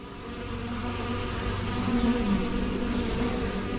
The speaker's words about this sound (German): Auch wenn die Bienen noch fleißig fliegen, so geht die Saison langsam zu Ende.